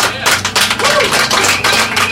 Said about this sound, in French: Merci à vous, on peut applaudir les musiciens pour cette demi-heure de live.